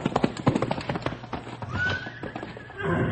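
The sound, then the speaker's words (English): A quick run of hoof clip-clops on hard ground, then a horse named Storm lets out a high, wavering whinny that trails off as the footfalls continue underneath, as he is turned into a corral after his pack is taken off. “Storm says thanks for taking the pack off his back.”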